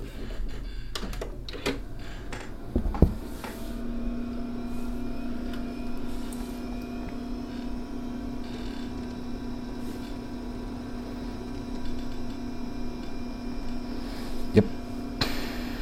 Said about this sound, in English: Yep, there goes the floppy disk and the PC speaker. Oh man, an old computer. A lot slower than a VM.